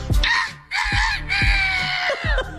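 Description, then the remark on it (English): A man's voice imitates a rooster crowing, belting out a long, strained, raspy cock-a-doodle-doo in a few rising and sustained bursts, loud and hoarse, with no other sounds around it. “Know how I love my animal sound. Yes. Be that damn rooster every morning.”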